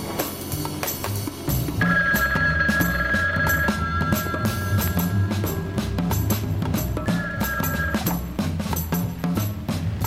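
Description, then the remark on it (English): A telephone rings in two sustained bursts, the first long and the second shorter, over a dense, busy backdrop of music and noise with no voices. “This has got to be Keith. Right. I have the only working phone left.”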